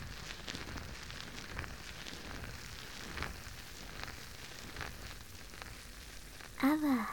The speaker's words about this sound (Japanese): きめ細やかなので、こうやってしっかり坊ちゃまのお耳をマッサージしても、中に泡が流れ込んでいかないですし、すごくいいですよね。しばらくは、こちらのソープを愛用することにしましょう。もちもちの泡でたっぷりお耳を包んで、